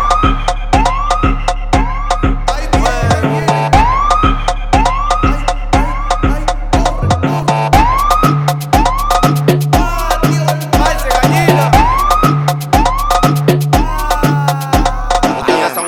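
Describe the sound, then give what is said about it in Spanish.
A police siren whoops in quick, repeating rising sweeps, loud, layered over a steady heavy thumping bass beat that carries on throughout. “Como los policías. Andan buscando carta blanca con la sirena prendida.”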